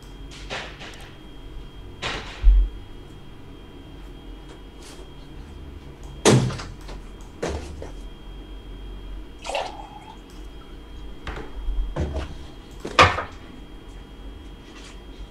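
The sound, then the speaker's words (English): A cupboard door opens and shuts amid scattered clicks, knocks and a low thump as a glass is taken out, the sharp bursts spaced irregularly over quiet background hiss, with no talking. “Yeah, do I have 2 seconds to grab a glass so I'm not chugging out of a gallon?”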